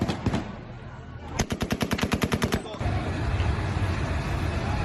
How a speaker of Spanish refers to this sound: Incluso se han escuchado disparos para tratar de dispersar a la multitud.